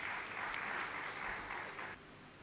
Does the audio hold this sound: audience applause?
yes